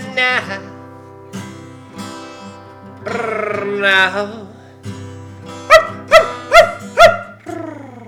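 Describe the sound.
A single voice scats and beatboxes with sliding, melodic syllables and clipped percussive pops, ending in a quick run of four sharp, yelping bursts that sound almost like barks.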